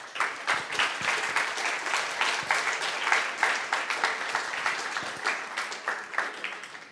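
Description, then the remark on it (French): A crowd applauds steadily for several seconds for the next speaker about to give a testimony, a dense, even patter of many hands clapping at moderate volume, with no voices standing out. “On peut l'applaudir aussi.”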